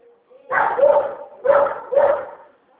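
A dog barks three times, loud, the first bark drawn out and the next two following in quick succession, with a faint low hum around them.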